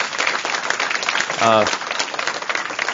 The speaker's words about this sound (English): You know, she needs a good applause on that one. She did perfect.